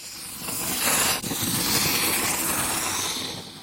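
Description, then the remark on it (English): A pencil sketching on paper, recorded with highly sensitive microphones: a steady, continuous dry rasp of sketching strokes with one brief pause early on, no voices. “She's sketching with a pencil.”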